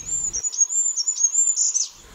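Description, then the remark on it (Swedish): Goldcrest, Sweden's smallest bird, calling from the tops of spruce trees: a continuous stream of very thin, high-pitched notes with slight flicks and wavers, fairly clear and steady for about two seconds, with no voices. “Små, små nåltunna pip uppifrån grantopparna hör man. Och då är det kungsfågeln, Sveriges minsta fågel.”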